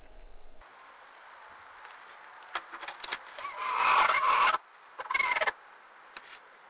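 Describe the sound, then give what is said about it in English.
A hen, sitting in the middle of laying when the egg door is opened, gives an annoyed, raspy growling call: a few clicks build into a harsh, rattling croak lasting about two seconds, then one shorter grumble after a brief pause. No one speaks. “She was in the middle of laying, and she was not happy that I had opened the door, and so she made this sound.”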